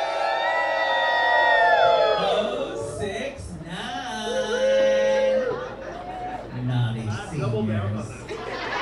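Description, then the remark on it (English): A lively crowd of seniors, teenagers, families with young kids and couples cheers and whoops at a Rainbow Bingo event, with bursts of laughter and high excited voices rising and falling over several seconds, loud throughout. “The rules for Rainbow Bingo are the same as at any senior center, but the mood is a little different.”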